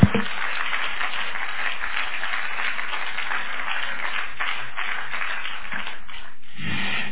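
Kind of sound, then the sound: crowd, audience clapping hands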